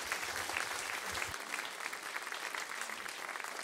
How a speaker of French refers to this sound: On peut les applaudir et les encourager.